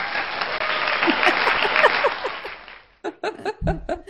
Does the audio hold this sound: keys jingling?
no